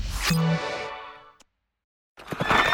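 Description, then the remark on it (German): A single loud horse neigh rings out with a bright, harmonic whinny that fades over about a second, followed by brief silence and then a burst of noisy sound. “Diesen Sonntag in vollem Galopp zum Gmünder Pferdetag mit umfangreichem Schauprogramm.”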